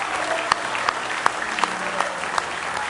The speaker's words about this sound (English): Praise the Lord. Somebody say praise the Lord. Oh, let's give him a real good hand clap of praise in the house of the Lord tonight.